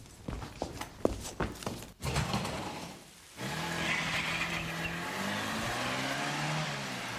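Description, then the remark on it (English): Sharp clopping steps give way to a short pause, then a car engine starts up and revs steadily, its pitch climbing as the vehicle pulls off, staying fairly loud throughout. “Curses! There he goes! Oh, what? He was in that car?”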